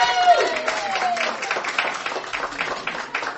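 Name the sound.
audience applause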